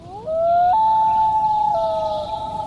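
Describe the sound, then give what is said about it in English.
A loon calls in a long, mournful wail that sweeps upward, then holds high and steps between pitches, loud and eerie with no talking over it. “Loons are built for life in the water.”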